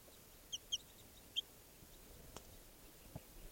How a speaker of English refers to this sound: And the wild bird has come down here in the camp, and it's about 6 feet away from me next to the truck here, looking down at some captives I have. And it just flew up to a tree branch, and it's a juvenile bird.